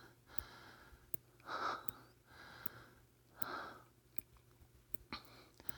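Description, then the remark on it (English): Heavy, airy breathing with about five long in-and-out breaths spaced a second or so apart, the pace easing slightly toward the end, accompanied by faint clicks and no talking. “My breathing slows.”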